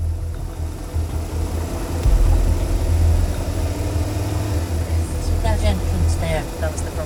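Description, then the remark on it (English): A car engine idles with a steady, low rumble that fills the whole stretch, heard from inside the car, with faint higher chirps drifting in near the end. “We're back in the car”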